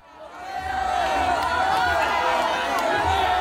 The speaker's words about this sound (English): Matteo Salvini greeted by cheering crowds at a rally for his League party. He remains a popular figure, even in opposition.